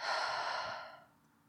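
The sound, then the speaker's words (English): A deep, breathy exhalation, a soft airy rush that trails off after about a second into quiet. No talking. “Breathe. Do it with me right now, in and out. Once more, in and out.”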